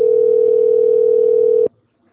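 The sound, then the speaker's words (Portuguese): A telephone busy tone: a single steady, mid-pitched electronic tone holding loudly for under two seconds, then cutting off abruptly into silence, with no voices present. “mensagem gratuita de telefone ocupado.”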